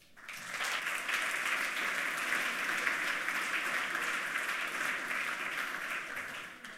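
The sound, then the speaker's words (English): Steady applause from an audience at a talk about hacking and computer science, a dense wash of many hands clapping that swells in quickly, holds at an even level for several seconds, and tapers slightly at the end. “And warm applause for Sergey.”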